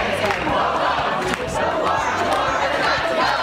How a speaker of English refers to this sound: Las Vegas makes it illegal to camp or sleep on the streets or sidewalks. The city council approving the measure in front of a fired up crowd.